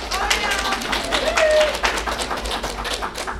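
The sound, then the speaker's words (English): An audience at a session breaks into steady applause to show how many have shopped on Amazon in the last few weeks, dense overlapping claps spread across the whole stretch with a murmur of voices and a brief whoop mixed in. “So before we get started, I'd just love to get through your applause, a sense of how many of you in the last few weeks have done any shopping on Amazon.”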